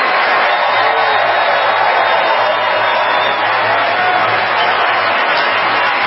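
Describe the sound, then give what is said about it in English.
A steady, dense round of applause from a large crowd for Meryl Streep, loud and sustained for several seconds with no break, with no one speaking over it. “Everybody, please join me in giving Meryl Streep a totally undeserved round of applause, will you?”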